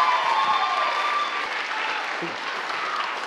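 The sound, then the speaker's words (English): An audience claps steadily and continuously, a special round of applause given in thanks for a woman's work, a dense, even wash of applause that holds its loudness for several seconds with no voices rising above it. “So I want to give her a special round of applause for all the work that she put in for that.”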